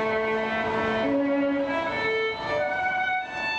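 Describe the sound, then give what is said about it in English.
A solo violin plays a slow Bach piece of long, sustained bowed notes, fairly loud, performed by a youngish man busking with his violin case open in a subway station, over a steady wash of echoing background noise from commuters rushing by. “Here's a recording of a musician in a subway station.”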